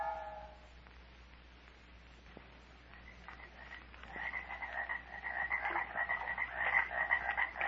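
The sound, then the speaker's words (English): The Dismal Swamp at night, with frogs croaking in a dense, overlapping chorus that builds steadily from a quiet start to a loud, continuous rattling din, over a low steady hum. “Murder has moved into the black decaying heart of the Dismal Swamp, which Dr.”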